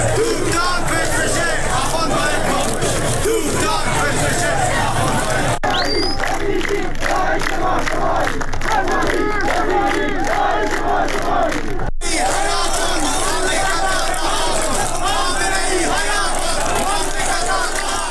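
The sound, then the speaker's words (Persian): A large crowd of protesters in Zahedan, Iran, marching after Friday prayers, chants anti-government slogans in loud, rhythmic unison, voices rising and falling together with shouting mixed in, continuous throughout with two brief cuts between segments. “معترضان در زاهدان در 16 جمعه اعتراضات پس از نماز جمعه راهپیمایی کردند و شعارهایی ضد حکومتی از جمله حکومت بچه کش نمیخوایم، سپاهی بسیجی داعش ما شمایی و تهرانی با غیرت حمایت حمایت سر دادند.”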